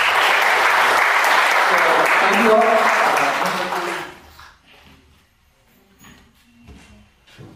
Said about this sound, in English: So once again, a final round of applause for him.